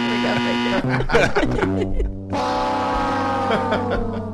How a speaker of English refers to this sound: There we go. Hit some kind of buzzer for that.